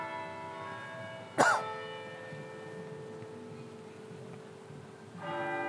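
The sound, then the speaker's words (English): Cathedral bells chime the hour at 5 p.m. with long, ringing tones that hang and slowly fade, then a fresh strike rings out near the end. A brief cough cuts in early on; otherwise no one speaks. “So the time is 5 p.m. You can hear the cathedral bells chiming.”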